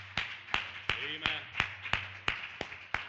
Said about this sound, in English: Praise Jesus. Amen. Amen. Give God a round of applause for that. Amen.